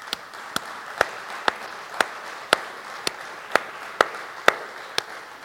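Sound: audience round of applause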